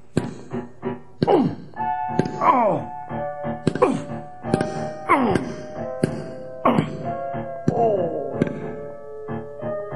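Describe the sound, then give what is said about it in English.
Heavy sledgehammer blows strike the wall between a store and a butcher shop again and again, about once a second, each a loud thudding crack followed by a short ringing, falling tone as the wall gives way and a big opening is made between the two stores. “Johan smashed at the wall until there was a big opening between the two stores.”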